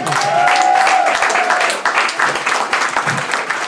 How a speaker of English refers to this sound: We're trying to make a lot of money for Guide Dogs for the Blind. Who would like to applaud Guide Dogs for the Blind?